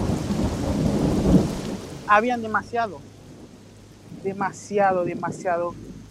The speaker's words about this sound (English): it was there that Pascal first experienced the Darien's infamous rain